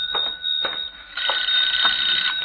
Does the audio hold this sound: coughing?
no